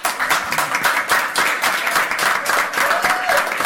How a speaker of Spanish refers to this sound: Y eso es lo que merece realmente un gran aplauso.